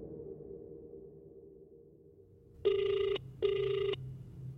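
A telephone rings twice in quick succession at 7:30 in the evening, two short electronic buzzing tones, clear, rising out of a low murmuring background hum.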